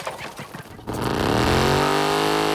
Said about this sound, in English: The man climbs on and prepares to start it. The rear wheel's been mounted on a rotating test stand, and as the man cajoles the engine into life, it spins rapidly while the bike remains stationary.